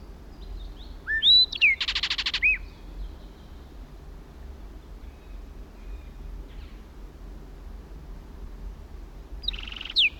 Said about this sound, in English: Now in another pine. 60 feet from original position. Kelp gulls in the background. Southern lapwings. Another blackbird joined it.